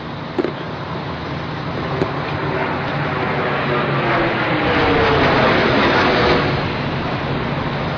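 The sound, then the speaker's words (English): A low-flying jet airplane passes overhead in Manhattan at 8:46 in the morning with a loud, steady roar that swells slightly near the middle and then eases off, and a couple of faint clicks are heard but no talking. “And then we heard double audio, just a plane come over.”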